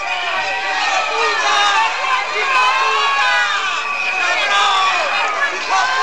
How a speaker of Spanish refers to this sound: A su llegada a la calle Prim, afectados por las preferentes le han recibido con estos abucheos.